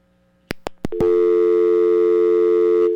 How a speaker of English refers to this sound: Okay. Nothing but a dial tone.